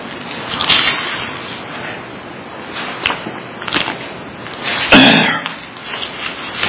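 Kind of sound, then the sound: human body sound, throat clearing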